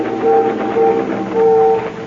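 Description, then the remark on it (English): A ferry whistle on a river sounds in three steady, mid-pitched blasts, two short and one longer, in a Morse code signaling pattern to another boat, over a constant low engine rumble. “Ferry whistles. They're signaling us.”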